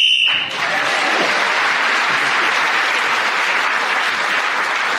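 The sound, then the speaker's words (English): A short, shrill whistle blast ends a round of a panel game, gaining a panellist an extra point, and is quickly swallowed by loud, sustained applause that continues steadily to the end. “So, at the end of that round, Paul Merton, speaking as a whistle-end, gained that extra point.”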